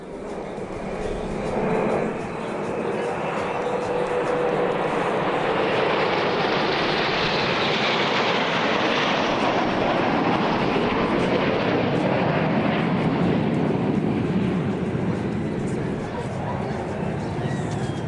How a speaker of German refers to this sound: Eine Fliegerstaffel drehte einen doppelten Looping direkt über dem Strand und dem Festivalpalais. Dazu malten sie Bleu, Blanc, Rouge in den Himmel, die blau-weiß-roten Farben der französischen Tricolore.